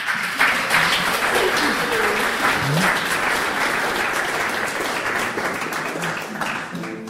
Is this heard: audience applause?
yes